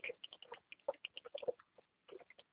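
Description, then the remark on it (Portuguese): A water bottle being filled, heard as a quick, irregular run of small gurgles and clicks, fairly quiet, pausing briefly near the end before a few more. “Ó, tá ouvindo barulho, mas a minha garrafa que eu tô enchendo.”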